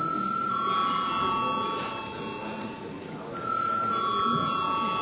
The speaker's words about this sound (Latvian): Paldies, lūdzu zvanu.